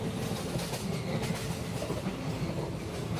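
train riding on rails

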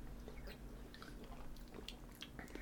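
sipping beer

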